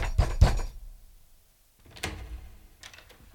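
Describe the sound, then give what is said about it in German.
Two heavy knocks on a door in quick succession, followed after a short pause by a few softer thuds and rattles. No voices. “Earl, öffnen Sie die Tür!”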